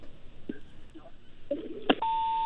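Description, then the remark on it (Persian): A brief clicking burst, then a steady electronic phone tone begins and holds to the end, sounding like a disconnected line's tone over faint background noise, after a caller's phone line to a radio call-in programme cuts off. “متاسفانه که تلفنشان قطع شد.”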